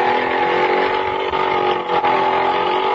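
A small motor scooter engine drives off, humming steadily and loudly and holding a constant buzzing drone for the whole stretch with no one talking.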